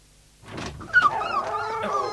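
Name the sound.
dogs barking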